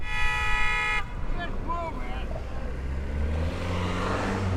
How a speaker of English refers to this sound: Some people stop in the road to snap a photo, and Kevin wanders up to their window. That's when the traffic starts, and the horns.